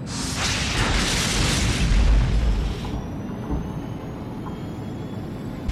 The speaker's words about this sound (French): Confirmez-moi que c'est bien la lame d'éperonnage qui a encaissé le choc, et que l'étrave n'a rien.